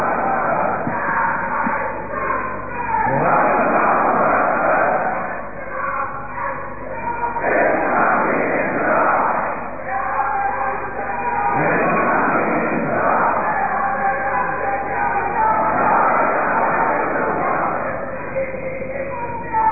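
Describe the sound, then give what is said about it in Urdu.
A large crowd chants slogans to welcome a guest at the final session of a two-day conference, in loud, rhythmic bursts roughly every four seconds, with massed voices rising and falling in repeated call-and-response waves. “نعرہ لگائیں موزر مہمان کے استقبال کا حق ادا نہیں ہو سکتا. مزید زور سے نعرہ لگائیں.”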